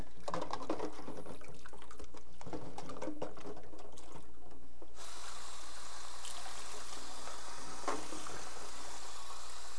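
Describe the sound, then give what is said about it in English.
Clattering and clinking of dishes as someone washes the dishes after breakfast, then a steady rush of running tap water takes over for the second half, with a few soft knocks underneath. No one speaks. “You can hang out right here while Mommy washes the dishes for breakfast.”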